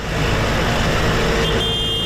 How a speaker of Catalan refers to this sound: I un dels altres sons de les darreres hores ha estat el dels tractors a les carreteres de Mallorca i Menorca.